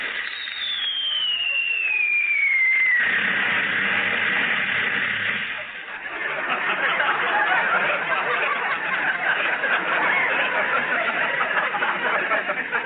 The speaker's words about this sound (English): Hey, it's like the Revolutionary War again. Listen to this. Hey, why are you all running away? Hey, who's lighting all these firecrackers?